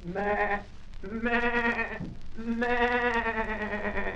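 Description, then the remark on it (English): A milk goat bleats three times in a row, a short call followed by two longer, wavering, nasal cries with a buzzy, harmonic tone, loud and alone with no talking, from a 1940 WILL radio broadcast on milk goats presented by the University of Illinois College of Agriculture. “Just to give you a taste of that, here's a clip from a 1940 WILL broadcast on milk goats.”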